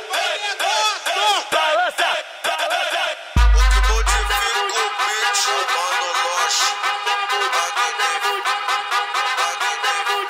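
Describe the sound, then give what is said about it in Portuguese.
A loud crowd of voices shouts and yells together without pause for about ten seconds, with a brief deep booming thud a third of the way through. “que saudade do bonde gritando.”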